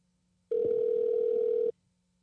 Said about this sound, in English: Yeah, I think he's just going to keep ringing. I don't think anyone's going to answer.